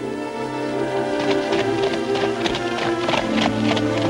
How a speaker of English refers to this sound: Solemn, Preston dons his black top hat and takes the reins of a dark horse and mounts. He trots off with Jenkins and Grobat.